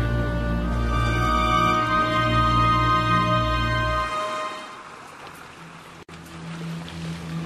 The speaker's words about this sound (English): No, I can hear it. That's water.